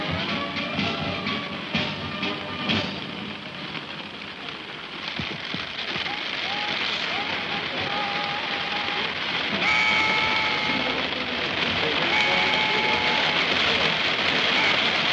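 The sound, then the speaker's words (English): Heavy rain pours down in a steady, dense hiss on a crowd at Trooping the Colour, with a busy murmur of people and faint tonal sounds mixed into the downpour throughout. “I have to report just a rustle of agitation in the crowd, because it is now absolutely pelting down, and the press are leaving.”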